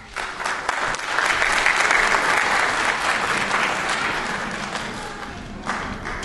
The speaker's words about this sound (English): Let's keep our applause coming as the junior singers now come on.